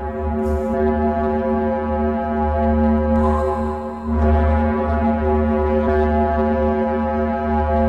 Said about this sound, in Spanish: Sigue Venus. Así se oye Venus.